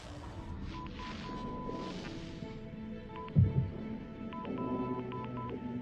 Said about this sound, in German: Das sind Morsezeichen. Was morst der? F. Okay. U. F, U? Wirklich? Sie erlauben Ihren Kindern, das F-Wort zu benutzen? E. Na schön, Sie haben sie wohl doch gut erzogen. L. Fuel. Das heißt Kraftstoff.